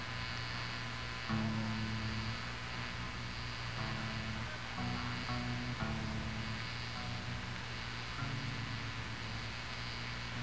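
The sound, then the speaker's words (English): Steady electrical humming and buzzing from stacks of amplifiers starting to buzz one by one, low droning tones with strong harmonics that shift in pitch and thicken as more units switch on, with no voices. “One by one, they're starting to buzz now. First, starting with that stack over there.”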